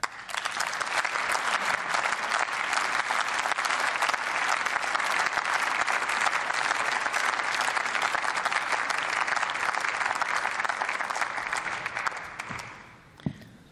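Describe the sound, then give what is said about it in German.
Sustained, dense applause from a large parliamentary assembly for a speaker after a speech, steady and loud for about twelve seconds before fading out, ending with a single sharp knock. “Gottes Segen für Sie und der Applaus des Hauses ist Ihrer.”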